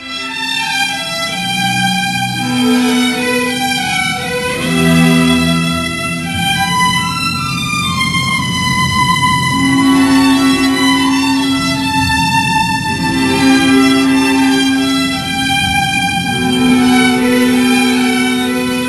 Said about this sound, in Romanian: Probabil vă amintiți balada, ascultăm o bucată din balada compusă de Ciprian Porumbescu.